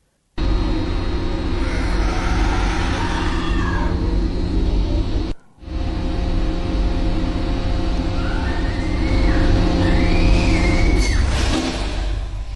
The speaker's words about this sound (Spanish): A ver, ponlo otra vez. Sí se oyen unos gritos espantosos de una mujer.